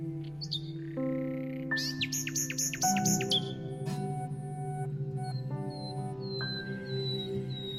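A nightingale sings a varied phrase of clear whistles, a quick run of repeated chirping notes, and rising sweet tones, heard alone over a low steady background hum.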